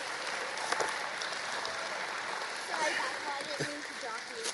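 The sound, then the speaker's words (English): An audience claps steadily for several seconds, a dense, continuous patter of many hands at moderate loudness, with a few faint voices and cheers mixed into the crowd noise. “Everybody, a round of applause for”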